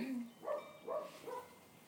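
A dog barks three or four times in quick succession, short tonal yaps spaced about half a second apart, fairly soft, with no one talking.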